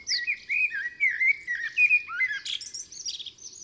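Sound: great tit song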